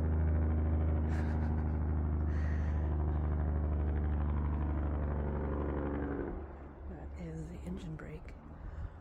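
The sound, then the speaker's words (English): A loud, steady low-pitched engine rumble from heavy industrial semi trucks, probably hauling gravel from a mine beyond a hill, dominates for about six seconds, then drops away, leaving quieter ambient noise by a tree-lined river with faint voices. “And that deep rumbling that you can probably hear right now, those are industrial trucks.”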